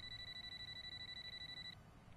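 A telephone rings with a continuous high, rapidly trilling electronic tone for nearly two seconds before cutting off, without any voices.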